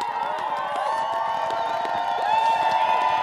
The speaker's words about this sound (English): If anything, cheers for the Yukoner were even louder than they were for the race winner.